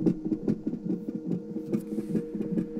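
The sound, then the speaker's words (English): A rapid, whooshing fetal heartbeat pulses through an ultrasound doppler monitor, fast rhythmic throbs over a steady hum, slightly muffled, recorded on a cell phone. “Baby's hearts beat super, super fast, so it sounds like a rabbit or something.”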